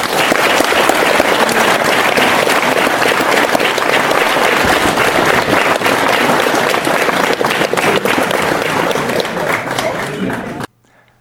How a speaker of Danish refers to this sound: Før I rejser jer og går og går hjem og har en god aften, skal I lige klappe en gang til. Både af de formidable spørgsmål, vi har fået fra salen af ildsjælene, som har været med her, og alle kandidater. Tak for det.